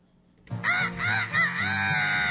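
A chicken gives a loud, drawn-out, warbling call lasting about two seconds after a brief quiet start, alone with no talking.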